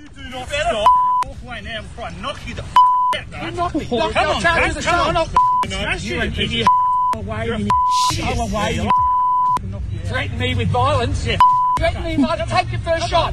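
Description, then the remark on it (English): Two men argue at a club championship, loud heated voices over one another, while a steady high-pitched censor bleep cuts in again and again, about seven times, each lasting under a second, replacing chunks of the shouting. “We've had to beep out a lot of a lot.”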